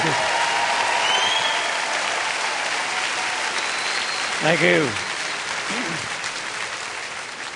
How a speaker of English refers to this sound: Come on, give Dr. Savelle a good hand clap.